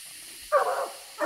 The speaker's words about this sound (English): The dogs take the track about a quarter mile down the creek and begin to bark treed. That means they think they've found the tree that the raccoon ran up. We're now walking in to see. These dogs, they're treed on a leaning tree.